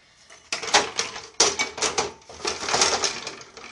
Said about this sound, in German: Ich rede gerade wieder Blödsinn, weil ich mich gerade konzentriere mit diesen Flaschen hier. Mein Gott, das geht schief. Es geht definitiv schief, wie ich hier gerade die Flaschen trage.